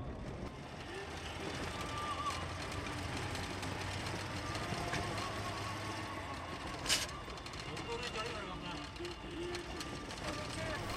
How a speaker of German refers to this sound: Eine Steppenlandschaft. Das Auto fährt durch einen Fluss.